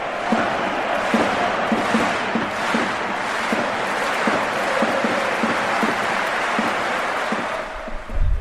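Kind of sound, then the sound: crowd, football stadium crowd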